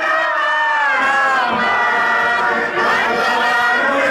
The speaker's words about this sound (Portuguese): Esta multidão de gente.